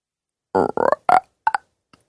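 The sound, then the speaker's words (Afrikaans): A voice imitates a frog with a quick run of four or five low, buzzy, throaty croaks, the last ones shorter and fading into a faint final click. “Ek is bang as ek iets wil sê, dan kwak die padda skielik uit my mond.”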